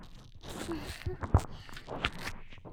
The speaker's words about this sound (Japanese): 泡の音パチパチして気持ちいいでしょ。この音を聞いてるだけでもうゾクゾクしちゃう。